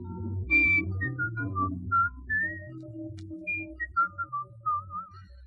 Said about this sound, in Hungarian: Jaj, ne fütyülj, kérlek.